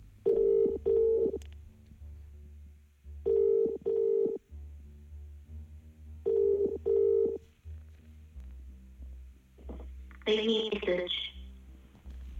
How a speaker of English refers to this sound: The phone rings at night, illuminating the dresser in its light. It's for you. It's your phone.